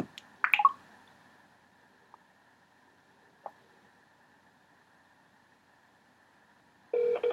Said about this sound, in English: And again, that was using my iPhone to actually make the phone call